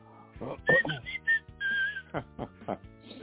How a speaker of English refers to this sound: Who the hell's whistling? Oh, no, sorry, that's me.